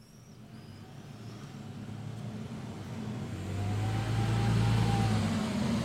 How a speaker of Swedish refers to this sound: Nu kommer det en buss med den. Den verkar inte vara kopplad till... Vi ska inte med den.